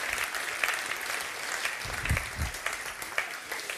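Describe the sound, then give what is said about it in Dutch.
An audience applauds steadily, a dense wash of many hands clapping at an even level for several seconds, with a few sharper claps standing out and no voices over it. “Zullen we hem even een fantastisch applaus geven voor wat hij daarvoor heeft gedaan.”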